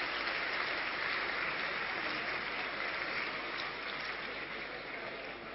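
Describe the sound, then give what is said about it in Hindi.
An audience claps steadily to welcome an elderly woman coming up to receive a prize, a dense, even patter of many hands, holding a fairly constant level for several seconds before easing off slightly at the end. No one speaks. “Prize receive करने के लिए, ताली बजा के उनका स्वागत करिए, इतनी बुजुर्ग।”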